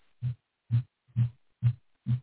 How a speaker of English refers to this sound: You can hear this grinding on my pickup truck. You hear that, people? That's my truck making that noise.